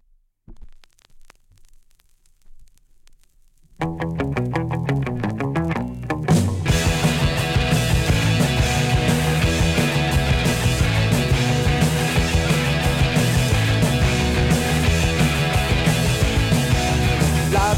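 A rock song intro opens with a few soft, low thumping pulses, then the band crashes in around four seconds and builds into a full, loud, steady instrumental groove with no singing yet.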